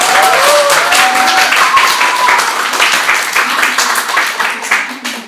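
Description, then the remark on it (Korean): An audience in a church applauds steadily for several seconds, thanking a pastor: a dense wash of many hands clapping at full strength before easing slightly at the end, with a few faint voices mixed in. “박수 한 번 더 크게.”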